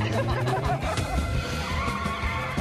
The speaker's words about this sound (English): As the car pulls away, Nick jumps into the passenger side.